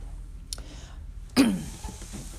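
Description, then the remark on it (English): A single short cough bursts out over quiet background noise, preceded by a fainter throat sound a moment earlier. No one speaks. “when I get to talking, after a while I'll start coughing.”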